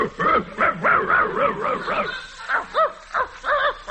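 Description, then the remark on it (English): A person imitates a dog, talking "in dog" to a dog named Muldoon, producing a quick series of short, yappy barks and whiny yips in a steady rhythm, fairly loud, with no other sounds around them. “I'm going to talk to Muldoon here in dog.”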